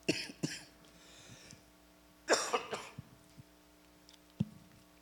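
Several dry coughs with pauses between them: a quick pair at first, a louder, harsher burst midway, then one short final cough. No one speaks, and a low steady hum runs underneath.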